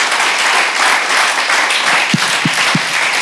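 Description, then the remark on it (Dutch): A church audience applauding the Lord, a dense, steady wash of clapping that stays loud and unbroken throughout, with three short low thumps near the end and no voices. “Zullen we die Heer die in ons midden is een applaus geven?”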